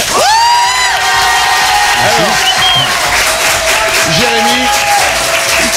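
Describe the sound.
Loud, sustained applause from an audience welcoming a team member for the 'jeu des 5 mots' game, with cheering and high whoops rising above the dense clapping, a few voices shouting over it throughout.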